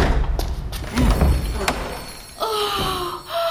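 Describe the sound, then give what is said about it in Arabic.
A door that opens onto a broom closet creaks open and then slams shut with a heavy thud, followed by a brief clatter and a short tonal squeak as things settle. “لا، ليس الباب الذي نبحث عنه. أوه، لقد فتح على خزانة المكنسة.”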